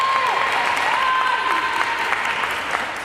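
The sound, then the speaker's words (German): A crowd of several dozen women spectators claps and cheers steadily at a women's football match in Oman, with bright whistles and shouts cutting through the dense, continuous applause. “Auf den Zuschauerrängen fiebern einige Dutzend Frauen mit.”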